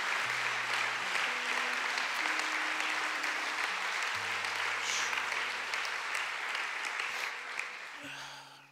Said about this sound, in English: I know you were clapping because that was a good word. Now, can we clap for the prophet of God who brought us the word of God today?